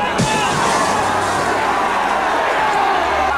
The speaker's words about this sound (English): An angry mob of gray people is gathered around the soda shop.